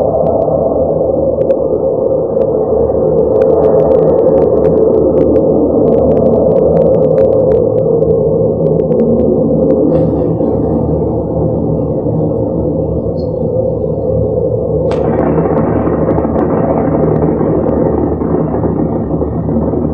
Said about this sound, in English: It's a large Russian nuclear bomb explosion back in the early 1960s, and it's not very long, but a clip. But this will give you an idea of what we're talking about.